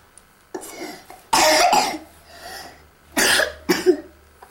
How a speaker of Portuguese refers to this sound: Com tosse. Estás constipado?